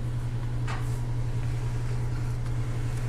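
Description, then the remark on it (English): A door is pulled shut with a short, dull knock, followed later by a faint click, all over a steady low mechanical hum. No one speaks. “Shut that door”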